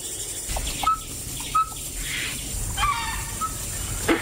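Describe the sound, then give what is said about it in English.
Dhole (Asian wild dog) calls: several short, high whistling notes, about four, spaced irregularly over a steady outdoor hiss with a few soft thumps, fairly faint. “And here, the dhul, sometimes known as the mountain wolf.”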